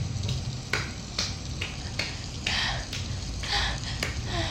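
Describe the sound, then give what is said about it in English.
Steady rain hisses, with irregular sharper drips and splats landing every half second or so over a constant wash of falling water. “Your strong body on top of me, protecting me from the rain, but still making me wet.”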